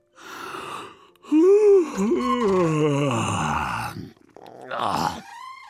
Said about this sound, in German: Schlapp streckt er die schlaffen Muskeln und gähnt so laut wie ein Elefant.